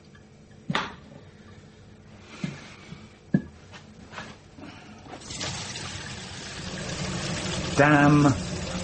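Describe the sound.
A few clunks and knocks, then Welsh tap water gushes steadily into a container, filling it for the last few seconds, loud. A man mutters briefly early on.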